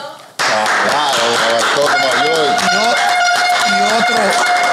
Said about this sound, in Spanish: otro aplauso.